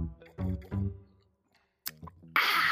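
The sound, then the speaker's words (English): An airy slurping sip of liquor from a wine tumbler, preceded by a soft voiced hum and a sharp click, then a sustained hiss of sipping. “Let me take a sip.”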